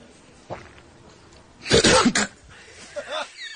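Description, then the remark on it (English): A man staring at a camera coughs in a sudden cluster of harsh, loud bursts after a near-silent pause, followed by a few faint throaty vocal sounds as it trails off. “And finally, he stares at the camera, has nothing to say until he starts coughing.”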